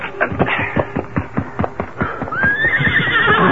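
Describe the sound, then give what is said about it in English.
In a Lone Ranger radio story, a horse's hooves clop in a steady, quick rhythm as a man runs to his horse, then the horse lets out a loud, rising whinny near the end, clear with no talking. “Then, putting on his boots, he ran to his horse.”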